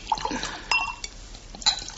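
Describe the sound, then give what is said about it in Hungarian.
A small amount of almuska liqueur is poured into a glass, a brief gurgling trickle broken by a few light glassy clinks, fairly quiet with no one speaking. “Tölthetek, drága. Talán egy kis almuskát.”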